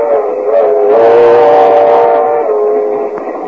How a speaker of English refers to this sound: So we now find Mr. and Mrs. George Burns in a compartment on a train approaching Kansas City.